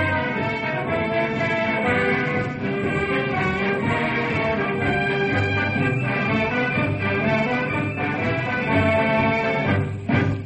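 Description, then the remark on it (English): A high school brass band plays a march at full volume, a dense, steady wall of horns and low brass sustained throughout with no voices, ending on a brief louder swell. “Right now, the Knotty Pine High Band is stirring the spirit of the occasion with the Stars and Stripes March.”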